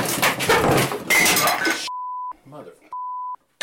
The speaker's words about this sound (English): the entire chair just collapsed from under me. I crashed to the floor. And thankfully, the tape recorder was on.